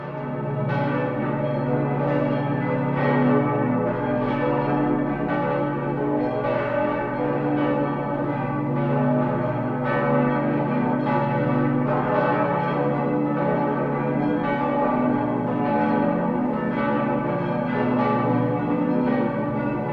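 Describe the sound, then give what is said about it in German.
The bells of the Stiftsbasilika St. Martin in Landshut, cast between 1488 and 1767 and hung nearly 80 meters high, peal continuously to ring in Christmas Eve, a dense, overlapping wash of deep and bright tones, loud and sustained with no speech, blending into a rich ringing drone. “Martin in Landshut wurden zwischen 1488 und 1767 gegossen und harren hier aus in heiliger Gefangenschaft, wie Hans Carossa so poetisch empfand, auf fast 80 Metern Höhe und schlagen die Stunden und läuten nun die Christnacht ein.”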